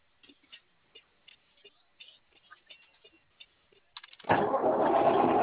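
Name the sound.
car engine starting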